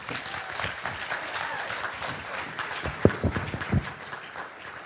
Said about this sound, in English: Let's clap.